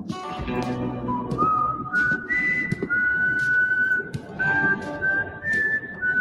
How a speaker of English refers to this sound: They had me at the first whistle.